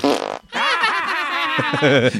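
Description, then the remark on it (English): A short blurt, then a loud, drawn-out fart noise that sputters and wobbles in pitch for nearly two seconds, with no talking. “That's why we tell fart jokes. Knock knock. Who's there?”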